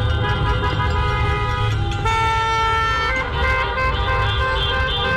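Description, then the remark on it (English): Many car horns blare at once in a dense, overlapping chorus during a community car caravan protest over a young man's killing by LA County Sheriffs, held continuously and loudly for several seconds over a low rumble of idling traffic. “They did a car caravan protest.”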